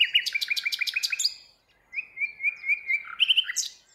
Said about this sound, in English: Birds.